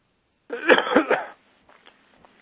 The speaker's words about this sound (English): Sorry for the cough.